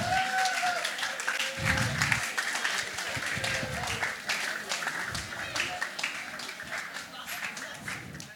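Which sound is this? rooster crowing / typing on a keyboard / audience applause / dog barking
audience applause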